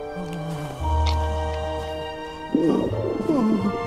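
The Highway Rat's stomach growls on a quiet high street: a long, low rumbling drone, followed by a burst of bubbly, warbling gurgles, loud and with no one speaking.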